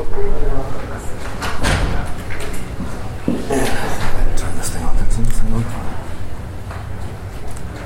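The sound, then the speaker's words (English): A door is pulled shut with a couple of solid knocks and a thud, over a steady murmur of voices and shuffling as a class gathers at the start of a session. “Can someone get that door over there? Ron's got it.”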